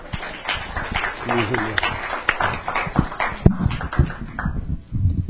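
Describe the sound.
An audience claps steadily for about five seconds to welcome a speaker, a dense crackle of many hands at moderate loudness, with a few voices calling out among the applause.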